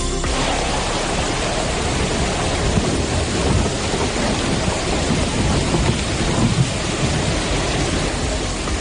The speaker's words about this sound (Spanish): La fuerte tormenta, acompañada de truenos y relámpagos que vivimos anoche en Toledo, nos dejó sin conciliar el sueño. La fuerza del agua era tal que las calles del casco eran prácticamente ríos.